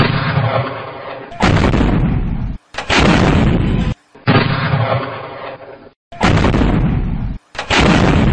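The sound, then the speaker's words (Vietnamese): A barrage of rockets is launched from many directions toward an airfield, coming in heavy, roaring, rumbling bursts of about two seconds each, separated by brief sharp gaps, with no voices. “Tiếng cười đùa chưa dứt thì một loạt quả tiễn bên dưới lại nhắn lên từ nhiều phía, phóng tới tấp về hướng phi trường.”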